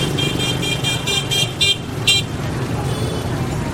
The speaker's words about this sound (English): And so the horns, honking the horns? Yeah, to say, I'm here, I'm here.